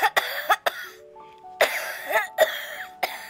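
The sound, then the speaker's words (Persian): Several short, dry coughs burst out in irregular clusters, broken by a quiet pause where a faint, thin tonal chime drifts in the background. “با چند سرفه خشک صدایش قطع شد.”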